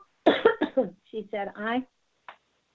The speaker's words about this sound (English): I have a little bit of a cough here.